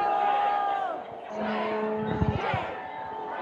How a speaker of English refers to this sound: You are just screaming shame at them. Wait, what's going on? People are just protesting in front of the Trump Hotel on the way to the White House.